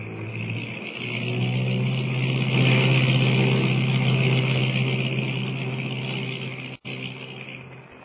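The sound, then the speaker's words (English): A seaplane's engine drones steadily with a deep, buzzing hum that swells slightly and then eases as it lands on deep water off an island and taxis up to the beach on a moonlit night, broken by one abrupt split-second cutout near the end. No one speaks. “We can land and taxi right up to the beach.”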